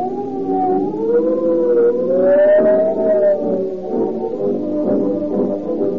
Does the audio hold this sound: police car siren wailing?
yes